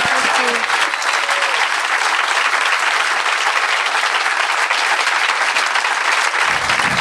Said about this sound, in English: This is her first Greenbelt ever, so give her an extra round of applause, please.